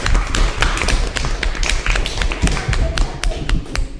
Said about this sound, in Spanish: Vamos a darnos un aplauso todos, a ver.